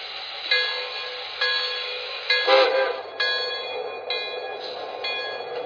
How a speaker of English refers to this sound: arriving from New York on track 1. Train number 33 to St. Louisa.